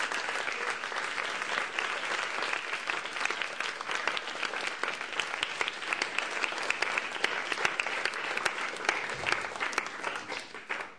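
Sustained audience applause at an event for Satchananda Swami fills the whole stretch, a dense, steady wash of many hands clapping at an even loudness, with no one speaking over it before it tapers slightly at the end.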